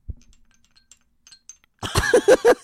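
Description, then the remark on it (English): Faint scattered tinkles and clicks, then a voice imitates how bells sewn into someone's skin would sound: muffled jingling with a quick run of loud, rhythmic pitched pulses. “I feel like the bells would sound very different if they were sewn into someone's skin. They'd be like this.”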